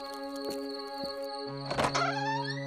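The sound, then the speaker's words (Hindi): A door is unlatched and opened: two sharp clicks followed by a louder, rattling clunk, over a steady humming musical drone. “अरे क्या यार, इतनी देर लगा दी दरवाजा खोलने में।”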